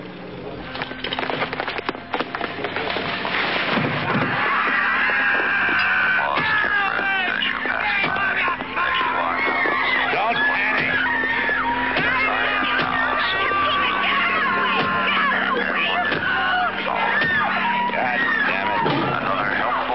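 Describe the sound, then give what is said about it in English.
A dense crowd shouts and screams over one another, loud and continuous, with sharp cries rising out of a constant roar of many voices. “There's a crowd there. We run through the crowd.”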